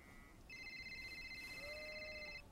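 Hüseyin's mobile phone rings with a steady electronic tone, bright stacked pitches sounding continuously for about two seconds over a faint hiss, with no one talking.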